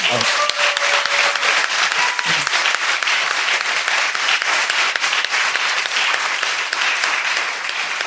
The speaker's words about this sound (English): Can we just give them another applause, please?